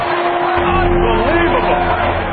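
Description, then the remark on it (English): A large crowd cheers and roars continuously, a loud, dense wall of many voices that holds steady throughout without breaking. “Listen to this crowd.”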